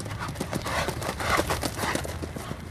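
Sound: horse hooves clip-clopping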